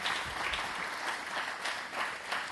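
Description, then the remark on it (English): A sustained round of audience applause for actors, dense steady clapping from many hands at moderate loudness, with no voices over it. “So let's go ahead and give another round of applause for our gracious actors.”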